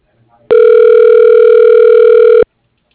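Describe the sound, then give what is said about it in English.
A single steady telephone ringback tone, heard while a phone call is being transferred, buzzes for about two seconds, loud and continuous, then cuts off abruptly, with silence before and after. “Wait while I transfer your call.”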